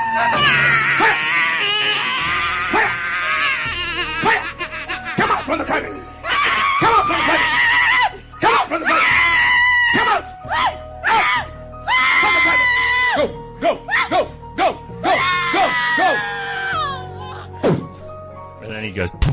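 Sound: woman screaming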